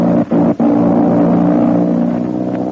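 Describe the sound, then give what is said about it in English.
A loud, steady airplane engine drones with a deep, even hum, broken by two quick cutouts near the start before settling into a continuous roar. No voices are heard. “Yes, that's an airplane engine, and Jude Hennig is in a bad spot.”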